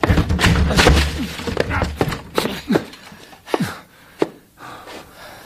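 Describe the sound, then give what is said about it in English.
Heavy thuds of a stuck door being broken down by people putting their shoulders to it: several dull blows followed by sharp cracks and splintering wood, then a few scattered knocks as it gives way. “Blasted door. Come on, we'll break it down.”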